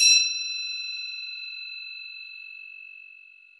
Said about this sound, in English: I also have my singing bowl. And my singing bowl, I always lose my thingy. So I have a scissors right now.